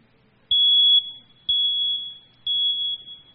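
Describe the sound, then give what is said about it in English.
A home smoke detector alarm sounds three loud, high-pitched beeps, each about half a second long and evenly spaced about a second apart, with no talking. “And these in your home, of course, they make this sound.”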